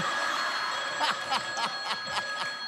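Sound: telephone ringing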